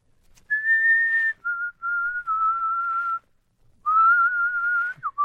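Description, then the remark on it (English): Someone whistles the tune 'Who Is Sylvia?', with clear sustained notes in several phrases and a short pause partway through; no one talks. “What's that you're whistling?”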